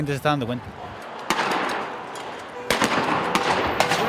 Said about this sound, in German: Dann explodiert ganz in der Nähe wieder eine Tränengasbombe.